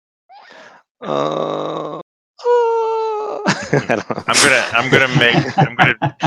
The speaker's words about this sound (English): you can make out two different moans, and one of them sounds female.